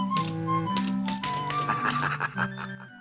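Quick, irregular typewriter key taps as a woman types at a desk in her bedroom, clattering steadily in the foreground over a sustained musical backdrop, with no one speaking.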